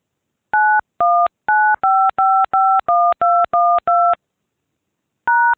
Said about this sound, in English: To establish second schedule, dial the phone number where the system is to transfer incoming calls, then press pound.